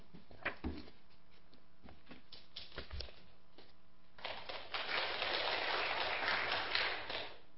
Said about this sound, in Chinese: 我很少在掌声里面上来的，谢谢你们的 warm welcome。